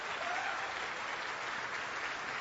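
Sustained applause from an audience, a dense, even wash of clapping that stays steady and fairly loud for the whole stretch, with no voices standing out.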